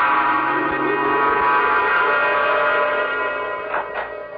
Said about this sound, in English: All I do remember is what brought me out of my trance. Who's that? Doorbell.